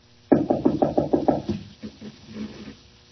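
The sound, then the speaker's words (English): A locked door's handle is rattled hard, about seven quick, loud clacks in a steady burst, followed by a few softer, looser jiggles fading out, with no talking. “Nothing doing. I thought so. Locked.”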